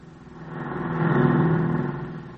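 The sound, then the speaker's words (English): A car drives past without stopping on a highway about 20 miles from Fort Smith, its engine drone swelling to a peak midway and then fading away over a couple of seconds. No voices. “That car never stopped neither.”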